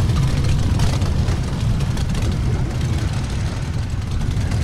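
A dense, steady rumble of nearly 400 idling motorcycle engines, ready to start the Amsterdam Distinguished Gentleman's Ride 2022, fills the scene, loud and continuous, with low throbbing and occasional revs blending into one thick engine roar.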